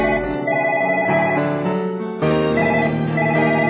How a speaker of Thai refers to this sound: เสียงโทรศัพท์ของวิภาดาดังขึ้นการสนทนาของเราจึงต้องสิ้นสุดลง